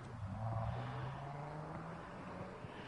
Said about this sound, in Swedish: Nästa bil är på gång in här hos mig, 45 då. Volvo.